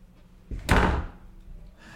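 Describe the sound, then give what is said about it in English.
A door being opened: a soft thud, then a louder, fuller burst of movement that fades within about half a second, with no voices. “So we moved on to the art of door opening.”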